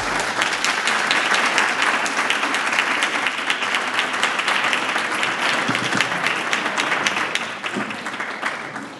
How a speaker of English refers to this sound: Back from the dead, please, clap those hands, and welcome to the stage,